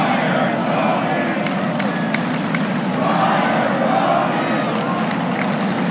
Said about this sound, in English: Just give us something to hang our hat on. That crowd can't wait.